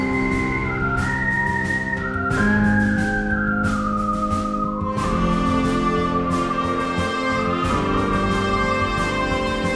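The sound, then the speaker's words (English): A short whistled melody glides through a few stepped notes over sustained, full-bodied musical accompaniment with occasional sharp accents, steady and fairly loud throughout, with no talking. “He does this whistle and looks up at him, and the trigger after the whistle to antagonize is cracking his whip.”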